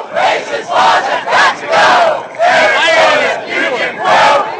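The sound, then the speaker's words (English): A large crowd protesting Arizona's SB 1070 law chants "Arizona, new Jim Crow, racist laws have got to go" in unison. The chanting is loud and rhythmic, with many voices rising and falling together in repeated phrases and a brief pause partway through. “That's an interesting chant.”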